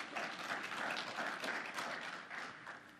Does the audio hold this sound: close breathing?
no